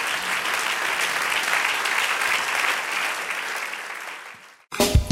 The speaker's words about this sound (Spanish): En el nombre de Jesús. Aleluya, dale un aplauso al Señor.